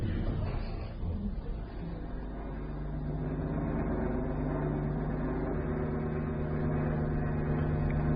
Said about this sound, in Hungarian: Repülőgép. Miami felé tart.